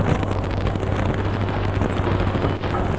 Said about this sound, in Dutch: Hij is nog steeds niet weg, de helikopter. Hij blijft hier rondcirkelen.